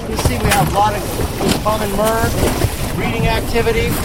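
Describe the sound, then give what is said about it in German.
An inflatable boat moving across open water at the Farallon Islands, picking up a US Fish and Wildlife Service employee, with a steady rush of wind and spray throughout and occasional faint calls or voices rising over the noise. “Ein Schlauchboot holt ihn ab, gesteuert von Ross Bradley.”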